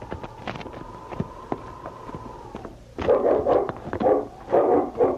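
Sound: dog barking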